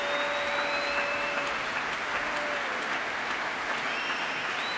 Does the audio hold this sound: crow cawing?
no